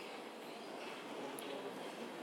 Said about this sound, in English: I think we're about to get a train. Can hear the rails jangling there.